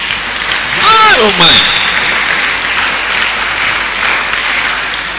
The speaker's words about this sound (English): Put your hands together for Brother Theophilus even before he says it. Is that the only way you can clap?